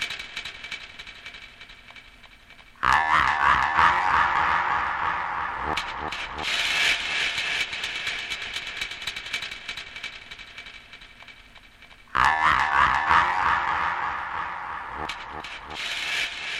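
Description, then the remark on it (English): A clock mechanism ratchets and clicks as it ticks and winds, with dense mechanical rattling that starts abruptly, fades slightly, then bursts out loud again partway through. No one speaks. “Listen, the clock works fine, but the alarm is much too loud.”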